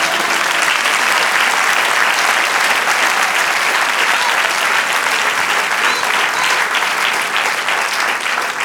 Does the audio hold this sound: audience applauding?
yes